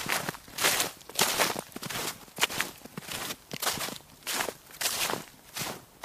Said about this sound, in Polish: Śnieg pod nogami. A pod śniegiem liście. Ten skrzyp śniegu miksuje się z szelestem suchych liści.